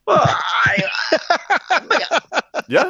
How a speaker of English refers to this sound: I am staggered to see my colleague yawning here. Sorry about that.